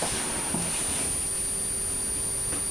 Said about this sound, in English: Oh, she's purring